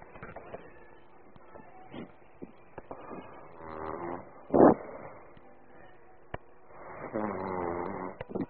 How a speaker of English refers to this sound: Listen, I'm gonna put my girlfriend on the phone. She's snoring. Let's hear my girlfriend snore. Hang on.